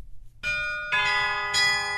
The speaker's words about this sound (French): Autrefois, la mélodie du carillon changeait plusieurs fois dans l'année à Nakupista.